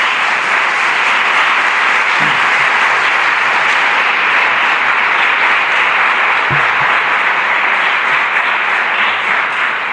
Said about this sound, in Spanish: vamos paso ahora con un gran aplauso